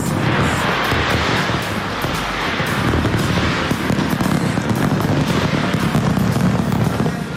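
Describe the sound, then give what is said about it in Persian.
New Year fireworks over the Sydney Opera House in Australia explode in a dense, continuous barrage, loud booms and crackling bursts overlapping with a steady rumbling roar and no pauses between blasts. “در استرالیا آتش‌بازی به مناسبت سال نو بر فراز ساختمان اپرای سیدنی که خیلی شهرت دارد صورت گرفت.”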